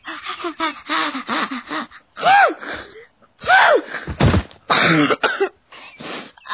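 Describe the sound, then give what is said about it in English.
A loud run of sneezes from a woman in an animation: she gasps in sharply again and again, building up before each explosive burst, with brief pauses between the fits. “In the animatic, she sneezed about 20 times.”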